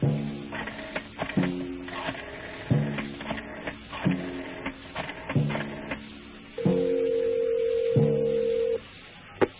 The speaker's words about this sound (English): I waited until he had the water running, then I eased the phone off the hook very gently and dialed the Bureau number.